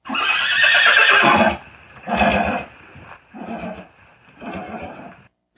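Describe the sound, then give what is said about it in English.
Angelina's little white pony whinnies alone: one long, loud, shrill whinny, then three shorter, quieter bursts with brief pauses between them. “And Angelina's cute little white pony is going to help us by doing our daily whinnies for us today.”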